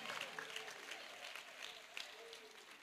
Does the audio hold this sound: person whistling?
no